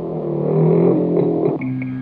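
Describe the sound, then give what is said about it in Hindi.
A motorcycle engine revs loudly, its pitch rising and shifting as it pulls away while someone rides off on another person's motorcycle, with no voices over the steady, gritty roar. “देख मैं तेरी मोटरसाइकिल लेके जा रहा हूँ।”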